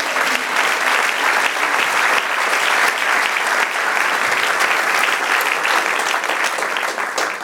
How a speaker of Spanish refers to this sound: Y a quien represento, doy un aplauso al Señor.